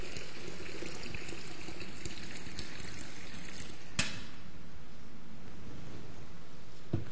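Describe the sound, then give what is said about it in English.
Water pours steadily into a baptismal font during a church baptism for about four seconds, a continuous splashing gurgle, then cuts off with a soft knock, leaving quiet room tone behind. “You can tell the Baptists at lunch that we did not immerse, but we did use lots of water.”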